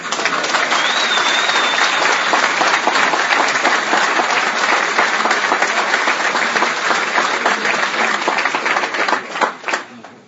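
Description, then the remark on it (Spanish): During a political speech, a crowd applauds the results steadily for about ten seconds, a dense, even wash of many hands clapping at full volume before it thins out and fades at the end. “Los aplausos para los resultados.”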